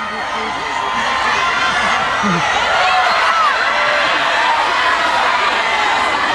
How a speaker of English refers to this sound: I'm looking for somebody who's not shouting at me. See how quiet it gets. You think just because you cheer as a group, I'm going to do it?